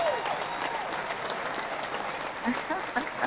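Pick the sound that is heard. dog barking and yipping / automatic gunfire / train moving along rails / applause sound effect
applause sound effect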